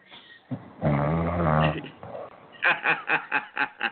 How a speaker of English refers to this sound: Hello? Is that somebody? Is that somebody snoring on the air? Say, man, how you call in my show and snoring on the air, man?